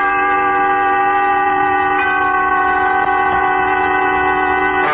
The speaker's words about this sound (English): Tonight, you will take a trip on a train, a journey exact in time and place, during which Autolite will recreate an historical puzzle by dramatizing with story and song the wreck of the old 97.